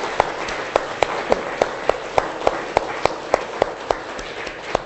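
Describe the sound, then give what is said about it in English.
A round of applause given in thanks to the people who work the machine for all they have done today: a steady, noisy wash of many hands clapping, with sharper claps cutting through at a brisk, regular beat of about three per second. No one speaks. “So I think we will give them a round of applause for all that they've done today.”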